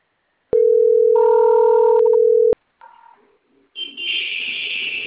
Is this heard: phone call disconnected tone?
yes